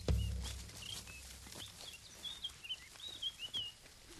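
A European goldfinch sings a quick, twittering run of high chirps and short trills, fairly faint, after a brief low thump at the start, with no one speaking.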